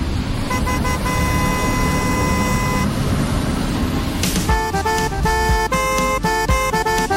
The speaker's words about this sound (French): Ça rend bien le klaxon quand même. C'est bien. C'est pas mal.